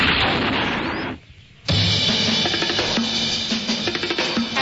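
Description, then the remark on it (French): Loud, dense gunfire sound effects crackle in a continuous barrage, break off for a brief half-second lull, then resume as a rapid stream of sharp bursts. No one speaks. “Après tous ces coups de feu et mille et une ruses, Aladdin réussit enfin à éloigner le vizir Kamel sans filtre de la taverne Scheherazade.”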